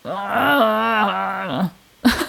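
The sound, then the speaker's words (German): A person imitates the loud moaning of fighting bears: one long, low, wavering groan lasting over a second, then after a brief pause a short, rough burst of voice. “So Bären im Kampf. Ja, genau. So ein Zweikampfbär.”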